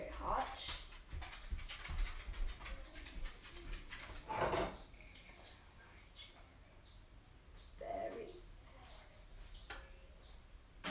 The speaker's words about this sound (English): Sorry, that was my dog in the background. She loves to watch me bake, I guess.